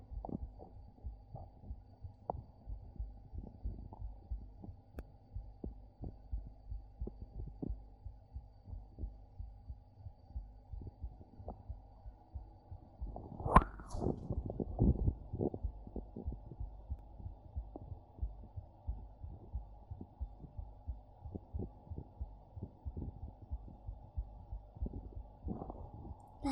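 A young woman's rapid, steady heartbeat thumps in low, muffled pulses in an ASMR recording, with a brief rustle partway through; no talking.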